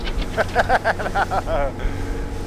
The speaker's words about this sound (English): It's a 20-minute boat ride upriver.